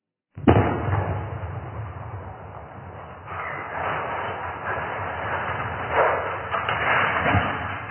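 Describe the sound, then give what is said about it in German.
A sudden sharp blast breaks the silence, followed by a long, loud rumbling and clattering roar as a 300-tonne rotating radio antenna in Austria is brought down by explosive demolition, with surges of crashing debris near the end. “Die Sprengung der Drehstandantenne war mehr als nur ein technischer Vorgang.”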